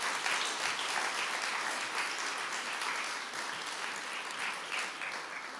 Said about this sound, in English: And who works for the NHS in the room here today? I just want to say a really, really big thank you for what you do. We're aware. Yeah, a round of applause.